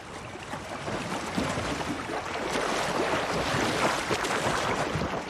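Steady churning and splashing water from a swimmer doing freestyle strokes, close and fairly loud, with a continuous rushing wash and no clear individual stroke rhythm. No voices.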